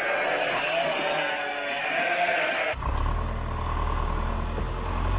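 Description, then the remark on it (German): A flock of sheep bleats for a few seconds, then a loud tractor engine cuts in abruptly and chugs with a steady, low, throbbing rumble until the end. “Zusammentreiben von Schafen, Schmiede, Sägen, Traktor und Nietpresse.”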